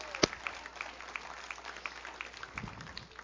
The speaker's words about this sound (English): Come on, somebody. Give the Lord a good clap off, would you? Come on.